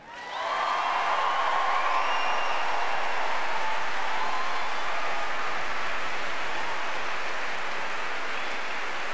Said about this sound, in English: And we've got some fantastic music for you this morning, provided by the fine men and women behind me of the Aurora Orchestra. So let's see if you can give them a big cheer.